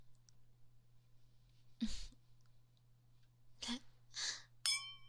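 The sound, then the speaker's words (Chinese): Two stemmed wine glasses filled with wine tap together once in a toast near the end, a bright clink that rings briefly with clear tones, preceded by a few soft breathy rustles over a low steady hum. “好嘞，来，干杯。”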